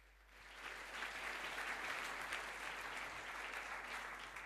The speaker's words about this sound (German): Die Leute halten ihre Hände in die Luft. Applaus für die VOC Review.